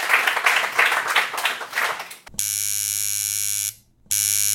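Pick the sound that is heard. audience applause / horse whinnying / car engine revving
audience applause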